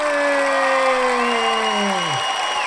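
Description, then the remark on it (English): Dense, steady applause fills the whole moment, with a gliding tone sliding downward in pitch over the clapping before fading out near the end. “Well, I don't usually get that kind of applause for a statement like that.”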